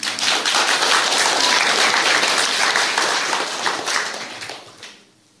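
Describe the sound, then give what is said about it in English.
A crowd applauds with dense, steady clapping that holds strong for about four seconds, then thins out and fades away near the end. No one speaks over it. “We'll give him a clap.”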